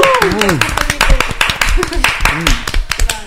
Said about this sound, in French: Allez, on l'applaudit très fort, s'il vous plaît.